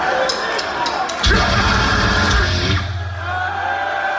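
A grindcore song lasting barely a second and a half erupts as one loud, harsh, distorted blast with heavy low end, framed by a steady murmur of crowd noise before and after.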